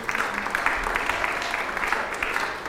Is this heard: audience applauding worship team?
yes